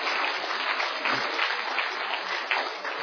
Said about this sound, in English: You didn't have to applaud, although I did deserve it.